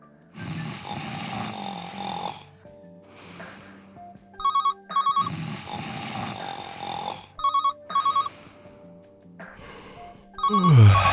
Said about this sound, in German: Scheiß Telefon.